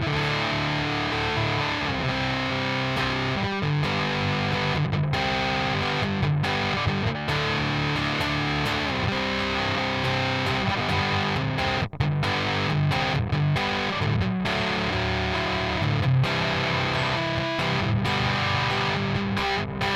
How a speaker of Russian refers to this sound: Это больше фуз, предназначенный для других целей. И сейчас я поиграю просто такими широкими аккордами, ну, в смысле, не квинтами, а обычными аккордами, двойками по всему грифу. Фуз на 12, тон на 12.